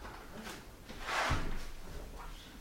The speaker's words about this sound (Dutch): Fijn, wil je even de deur open doen?